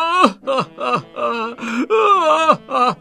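An old man weeps in a series of about eight loud, wailing sobs coming from his house, each voiced cry bending downward in pitch, with brief catches of breath between them and no words spoken.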